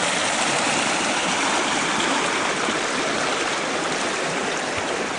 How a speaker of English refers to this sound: Let you look at the creek over here a little bit.